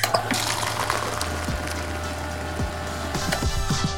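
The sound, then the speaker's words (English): Soda pours out steadily for several seconds, a continuous splashing stream with fizzy, bubbly crackle, fairly loud, with a low mechanical hum underneath. “Jack, let's pour one out for the self-serve soda machine. Let's pour one out. Literally.”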